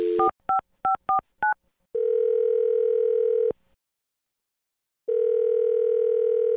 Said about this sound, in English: I'm going to dial her phone number right now, see if we can get her on the phone, and find out why she's not calling you back, okay?